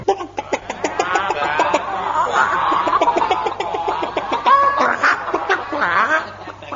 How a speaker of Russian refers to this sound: когда по двору идут, словно лебеди плывут, расступайся, народ, куры вышли из ворот, наши куры, государыни, хохлатушки